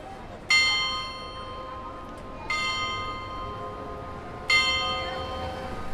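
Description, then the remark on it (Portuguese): A carillon clock with moving figures on the exterior of the Galerias Paladium building on Rua de Santa Catarina strikes 3 o'clock in the afternoon with three evenly spaced, resonant chimes about two seconds apart, each ringing out and fading over a steady background hum of street ambience. “O edifício das Galerias Paladium, situado na Rua de Santa Catarina, mostra-nos um relógio interessante com um carrilhão e figuras que se movimentam no exterior do edifício.”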